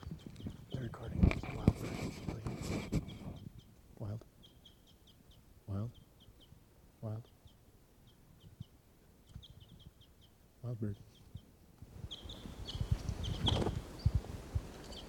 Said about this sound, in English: There's a wild bird still here.